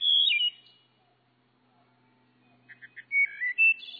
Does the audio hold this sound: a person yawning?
no